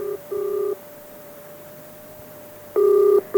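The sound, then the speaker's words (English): An outgoing call's ringback tone heard down the line: steady paired electronic purrs separated by a long pause, clear and fairly loud, with no one speaking. “who are you ringing?”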